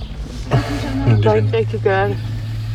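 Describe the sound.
A steady low engine hum fills the cabin of an idling car waiting at the border to cross from Poland into Ukraine, with a voice speaking briefly over the rumble.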